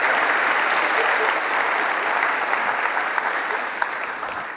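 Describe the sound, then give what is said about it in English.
The church audience at VRBC applauds itself steadily, a dense wash of many hands clapping at fairly high volume for several seconds, easing off slightly toward the end with no one speaking. “You have followed him, you have blessed him, and I want to thank you, first of all, and I want to ask you to give yourselves a round of applause.”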